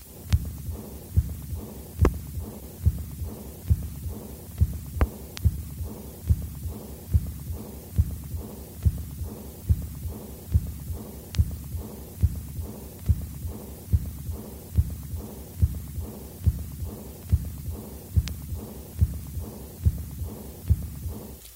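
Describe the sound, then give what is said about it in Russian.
A steady stethoscope heartbeat at about 85 beats per minute, recorded at Erb's point in a patient with aortic regurgitation following septic endocarditis, with a soft, blowing aortic regurgitation murmur trailing each beat beneath a low hum, and no voices. “Шум аортальной недостаточности обычно хорошо проводится по току регургитации влево и вниз, у четверти больных вплоть до верхушки, из-за чего может быть неверно диагностирован митральный стеноз.”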